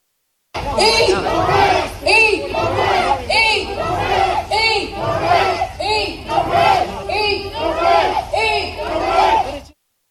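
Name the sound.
protest crowd chanting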